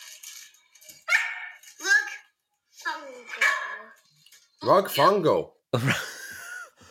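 A dog barks and yelps in a run of five or six loud bursts with short gaps, the later ones longer and more drawn out.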